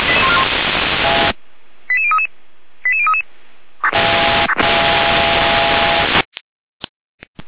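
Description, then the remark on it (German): Bursts of radio static frame two quick sequences of sharp electronic alerting tones from the Gera dispatch center, stepping through several pitches like dialing beeps, followed by more loud hiss and a few brief clicks; units are being alerted to an overturned car in Neustadt, Germany. “Leitstelle Gera mit Alarmierung.”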